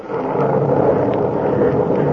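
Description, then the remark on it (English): A low, steady rumble of thunder from a storm rolls on without a break, loud and broad, with no voices over it. “And God, the storm has answered.”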